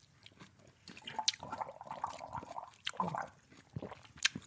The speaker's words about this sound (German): Ich schmatze hier einfach mal rum.